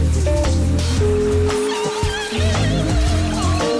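Steady hissing spray of running shower water fills the whole clip, with sustained musical tones and a melodic line playing over the continuous rush. It introduces the 'Cantant sota la dutxa' segment of IB3 Ràdio's morning programme.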